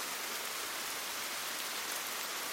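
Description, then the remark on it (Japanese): Heavy downpour rain pours down in a steady, dense hiss, loud with no breaks, drops spattering continuously across surfaces all around. “激しい雨音と雨の感触を全身に感じる。”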